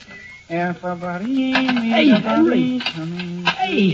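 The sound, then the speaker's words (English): Dishes and cutlery clatter as a table is cleared, with a run of sharp clinks and scrapes at an irregular pace, moderately loud, while voices murmur underneath. “I'm sure Henry would be glad to clear the table.”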